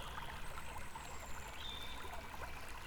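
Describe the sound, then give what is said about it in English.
Steady flowing river water with a current murmurs and trickles continuously, an even wash of running water around people standing in it up to their armpits, with no voices present. “The current won't sweep you away here.”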